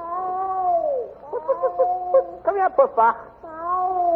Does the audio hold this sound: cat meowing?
yes